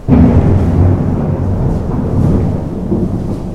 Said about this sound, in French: Ah bah c'est super, il pleut encore.